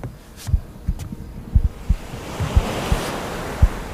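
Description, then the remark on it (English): Gentle surf washes in at the water's edge with a soft, steady hiss that slowly swells, while low wind rumble and occasional soft thumps sit underneath. No voices, just calm water. “The water is actually quite calm.”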